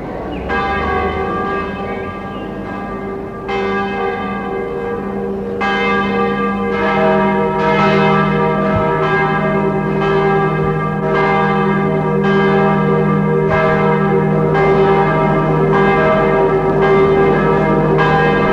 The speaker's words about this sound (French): Les cloches de toutes les églises sonnent.